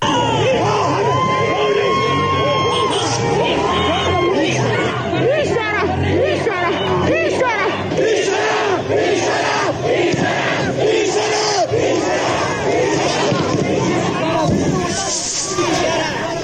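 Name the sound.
protest crowd shouting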